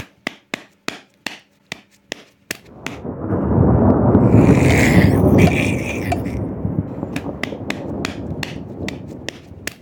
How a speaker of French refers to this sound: Alors dans sa cuisine, Nino saisit une louche et la frappe sur une casserole. Le bruit de la louche sur la casserole résonne comme le bruit du tonnerre.